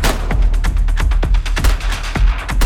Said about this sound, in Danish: så hører hun adskillige skud. Jeg ved ikke, hvor mange skud det var. Jeg bildte politiet ind, det var 7-8, men jeg kunne se på min forrude, at den var fuldstændig perforeret i sådan en cirkel omkring der, hvor han sidder lige over rattet.